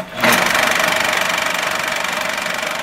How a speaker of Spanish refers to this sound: Las cámaras hacían ruido. Cuando digo ruido, es ruido. Ruido como una pickup gasolera de los años 60 encendida dentro de un monoambiente.